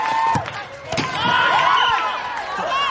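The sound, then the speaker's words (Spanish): A football is kicked several times as a group of young people play, sharp thuds landing about every half second to a second, with a harder strike toward the end as a shot at goal misses, amid lively shouting and chatter from players. “Le pasan la pelota, regatea a un par de chicos y tira a puerta sin éxito.”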